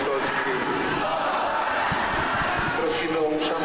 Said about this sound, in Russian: Слова архиепископа вызвали бурную реакцию верующих. Одни начали аплодировать, другие выкрикивать «позор», третьи скандировать «останься с нами».